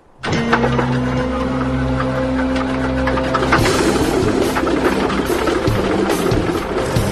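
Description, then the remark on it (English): An airplane engine, just put back together, catches abruptly on a test start and settles into a loud, steady roar with a droning hum, its tone shifting slightly partway through as it keeps running. “Hours later, the engine is back together, ready for a test start.”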